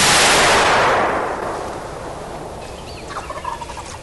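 A single loud shotgun blast, fired at a bronze tom turkey during a turkey hunt, opens, then its echo rolls out across miles of hills and hollers, slowly fading over a couple of seconds, with faint gobbling calls afterward.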